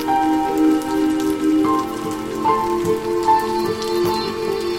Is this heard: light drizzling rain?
yes